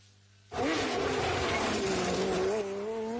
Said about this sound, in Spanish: Ya rugen los motores en Gran Canaria. Llega la 40 edición del Rally Islas Canarias, el Corte Inglés y COPE Canarias.